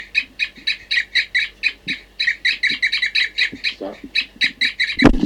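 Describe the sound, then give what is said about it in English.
Caged birds give a rapid, steady run of short, hollow tooting calls, several voices overlapping in a quick pulsing rhythm, fairly loud throughout, with a brief low thump near the end. Two birds (numbered 40 and 06) are tooting in response to a bird in the next cage. “Now 40 and 06 are tooping in response, I think, to 4-3 in the next cage.”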